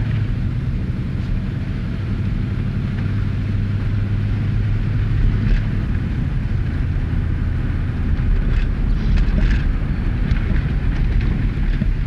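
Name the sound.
car driving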